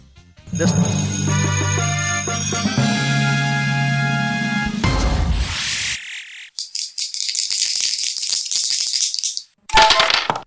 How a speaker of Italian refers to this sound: Quanti dadi, quale numero è uscito?